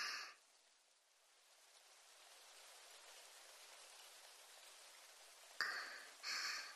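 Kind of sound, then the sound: nature, rain growing heavier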